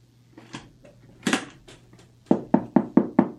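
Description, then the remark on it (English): Rapid, firm knocking on a door: a few scattered raps, then a steady run of six or seven loud, evenly spaced knocks with a hollow thud, no voices. “Come in.”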